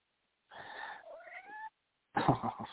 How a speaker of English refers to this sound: I got a kitty here. Kitty. Yeah.